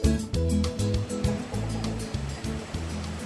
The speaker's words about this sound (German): Gemächlich schwappen kleine Wellen ans Ufer.